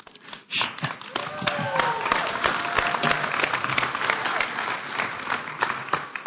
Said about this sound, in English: Some of them are clapping because they just love you. They have no idea what you're going to say, but they love you.